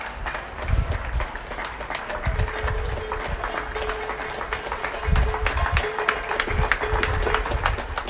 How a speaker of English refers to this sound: medical staff and frontline healthcare workers by clapping and banging their pots